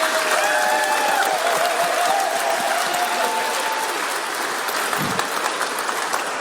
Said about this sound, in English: Well done. Don't forget your sticker. Give a clap.